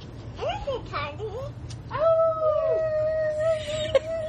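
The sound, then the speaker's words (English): A young girl howls like a wolf at the moon, starting with a few short rising yelps, then a long, steady, wavering howl held to the end, sung clear over a low background hum. “She's howling at the moon, which is very appropriate.”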